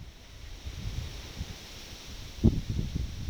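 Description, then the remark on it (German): Wind blows steadily outdoors with a low rumbling buffet, gusting into a stronger thump near the end, with a soft rustling hiss throughout and no voices. “Und Wind.”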